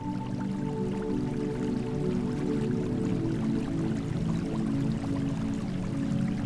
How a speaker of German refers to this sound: Das leise Plätschern des Wassers und das leichte Rascheln der Blätter im Wind wirken wie eine sanfte Schlafmelodie.